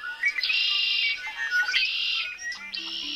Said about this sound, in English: Do you get that excited when you hear the birds come back in the spring?